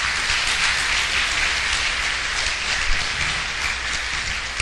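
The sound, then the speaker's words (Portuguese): Steady, dense applause from an audience, a continuous wash of many hands clapping at an even loudness for the whole stretch, with no voices breaking through. “Então, uma salva de palmas para o senhor”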